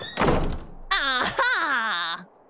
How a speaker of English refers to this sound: Mim was busting down doors and saying, aha!